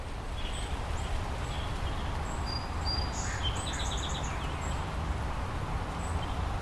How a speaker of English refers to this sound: And then a chorus of birds began chirping. And it was this really amazingly musical moment.